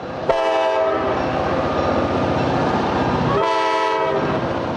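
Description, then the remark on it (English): A freight train rumbles past with a steady, loud roar, its horn blaring in two long blasts, one near the start and another just past the midpoint. “That's 1,200 freight trains a day going in and out of dozens of rail yards and tying up traffic across the region.”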